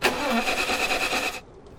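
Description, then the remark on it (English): A car engine cranks with a rapid, steady churning rhythm for over a second, fairly loud, then stops abruptly without catching, leaving near silence. “I think, let me just try restarting it.”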